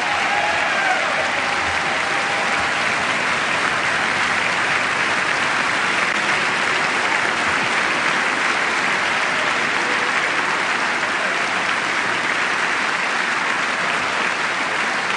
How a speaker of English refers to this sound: And sustained applause for First Lady Michelle Obama.